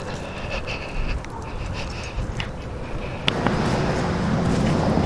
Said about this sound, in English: Morning. People out walking their dogs.